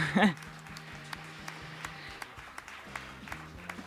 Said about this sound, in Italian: Come ben sapete, un saluto a chi ci ascolta da casa e un saluto invece a chi è qui in Auditorium. Siete abbastanza, direi, fatevi un applauso che siete belli.